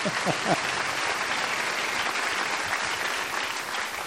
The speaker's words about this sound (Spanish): Un aplauso al papa, ¿eh? Papa chico. Papa Francisco.